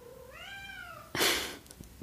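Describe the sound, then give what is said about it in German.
A cat waiting to be let inside gives one drawn-out meow that rises and falls in pitch, followed right after by a short, louder burst of breathy noise. No one is talking. “Hört man die Katze?”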